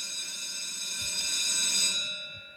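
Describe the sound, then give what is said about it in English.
An electric school bell rings continuously with a bright, metallic, sustained tone for a couple of seconds, fairly loud and alone, then cuts off abruptly near the end. “every damn busted pencil, same time, the bell rings.”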